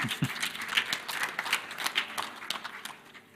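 An audience at a church service applauds a song, a dense patter of many hands clapping at once, steady and moderately loud, fading slightly toward the end.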